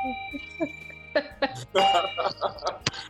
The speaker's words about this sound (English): But well, hit that darn bell, man. What are you doing? Thank you, for God's sake. Love that thing?